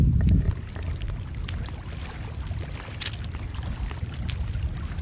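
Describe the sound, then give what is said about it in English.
Steady sea wash with a deep, rumbling roar and scattered splashy crackles on top, continuous for the whole stretch with no voices and no clear breaks between waves. “You can probably hear now the sea.”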